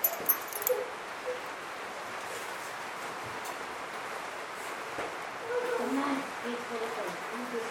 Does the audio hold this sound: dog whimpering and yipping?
yes